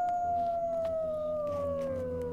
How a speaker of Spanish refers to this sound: Yo ya no me espanto. Oigo el aullido de los perros y dejo que aúllen.